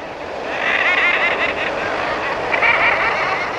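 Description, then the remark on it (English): A dense, continuous chorus of common murres fills the scene, countless overlapping harsh, growling seabird calls blending into a steady roar, loud, with a wash of surf-like noise beneath. “We're hearing common murres, birds of the Pacific and Bering Sea, and the North Atlantic by Labrador and Newfoundland.”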